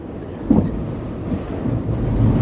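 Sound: train sound effect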